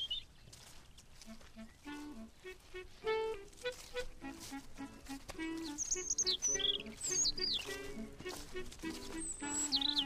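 A robin chirps and sings in quick, varied phrases with high whistled sweeps, clear against a soft background hiss, no voices present.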